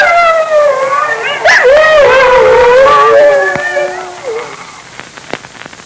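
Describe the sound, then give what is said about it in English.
In a Dick Tracy radio adventure, several wolves closing in howl and snarl together in long, wavering, overlapping cries, loud, with a sharp yelp partway through before the chorus fades, leaving a few faint clicks. “Well, the wolves are closing in, and Moccasin and Junior are short of arrows.”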